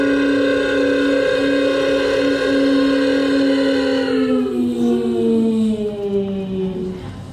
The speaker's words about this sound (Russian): Украинцы, ставшие свидетелями боевых действий, описывают звуки войны, автоматные очереди, полет дрона, взрывы и предлагают посетителям их повторять, словно в караоке-баре. Дрон «Камикадзе», Шахет 136.